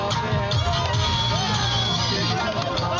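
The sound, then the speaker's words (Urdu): A large crowd of cricket fans in the stands of Colonel Sher Khan Stadium in Peshawar, Pakistan, roars steadily, with overlapping shouts, whoops and cheers from many voices blending into a dense, continuous wash of noise throughout, while no cricket is played on the pitch. “تماشائیوں کا شور و غل, ہلا گلا, یہ منظر ہے پشاور کے کرنل شیر خان سٹیڈیم کا, جہاں کرکٹ تو نہیں کھیلی جا رہی لیکن فینس کو سٹیڈیم میں بیٹھ کر میچ دیکھنے کا موقع پھر بھی مل رہا ہے.”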